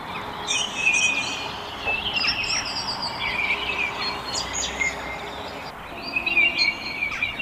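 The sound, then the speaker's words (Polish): A common kingfisher's call played back from an internet recording to lure the bird: thin, shrill, high whistles repeated in short bursts, heard over a steady rushing background noise with no one speaking. “Dosyć trudno jest go dostrzec, ale ja mam swój sposób na to, a mianowicie należy głos z internetu przywołać zimorodka i ten ptak na pewno pojawi się dosyć szybko w naszej okolicy.”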